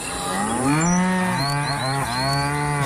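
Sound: cows mooing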